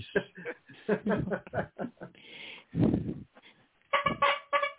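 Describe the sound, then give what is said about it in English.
A car horn sound effect honks in a series of short, nasal, buzzy blasts, with a longer honk midway and a final pair of bright, loud honks at the end. “Being you got that sound effect from your car.”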